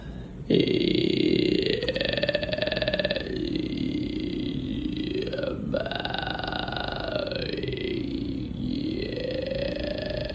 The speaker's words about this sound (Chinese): 练习气泡音的第一天，练习气泡音的第一周，练习气泡音的一个月啊。